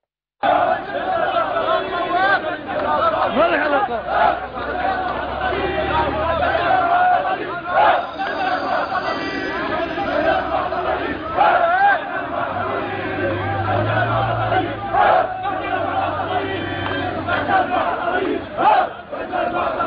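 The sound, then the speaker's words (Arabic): A large crowd of Syrian protesters chants loudly and continuously in rhythmic unison at a sit-in outside the Salheen police station in Aleppo, demanding the release of detainees. Voices overlap in a dense roar, with shouted cries rising above it, sustained throughout after an abrupt start. “لنتابع وإياكم مشاهدي الكرام هذا المقطع من مدينة حلب، والذي يظهر المتظاهرون السوريين وهم يعتصمون أمام قسم شرطة الصالحين للمطالبة بالإفراج عن المعتقلين في مشهد رائع يدل على تحدي الشعب لإرادة الاستبداد، فلنتابع سويا.”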